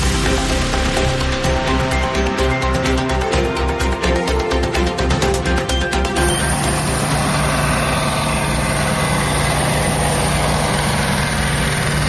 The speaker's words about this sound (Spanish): este sonido corresponde a uno de los helicópteros que participan en las tareas de extinción del impresionante incendio que ha arrasado ya más de 3.600 hectáreas en Sierra Bermeja, Málaga.